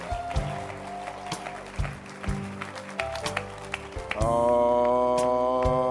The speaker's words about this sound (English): Keep clapping your hands.